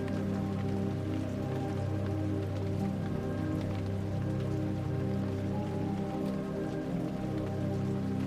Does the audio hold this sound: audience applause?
no